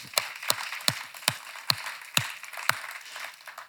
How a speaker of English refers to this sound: You belong to, you wanna clap for that? Amen, let's clap for that. It's Easter, amen.